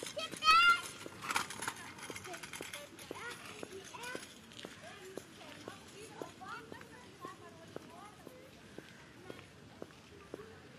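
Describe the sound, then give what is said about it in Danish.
A child's voice rings out briefly, then a girl rides a kick scooter past along the route, its wheels making a steady, rhythmic clicking over the pavement amid soft outdoor background noise. “En pige løber på et løbehjul på ruten.”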